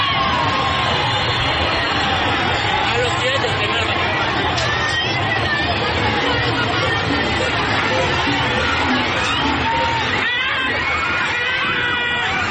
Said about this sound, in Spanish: Se escuchan los gritos de la gente asustada y se ve a la gente corriendo y a quienes se encontraban en la parte superior de las gradas deslizándose y cayéndose en medio de la plaza.